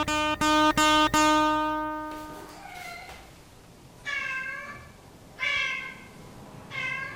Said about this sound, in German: Das ist der Kater meiner Mutter. Immer wenn er eine Maus fängt, kommt er laut miauend ins Haus und frisst dann seine Beute, am liebsten vor den Augen meiner Mutter.